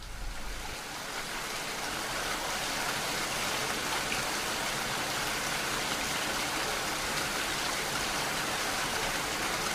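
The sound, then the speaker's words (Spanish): Steady rain falls continuously, a dense even hiss of drops spread across the whole clip at a moderate level, with no voices or other sounds breaking through. “En realidad escuchaba la lluvia desde antes de despertarme.”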